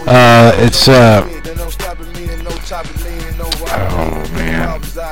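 A reversed passage from the backmasked ending of a song, played backwards: a warped, pitch-sliding voice swells loudly at the start, then continues over a steady low drone with odd backward-sounding attacks and fades.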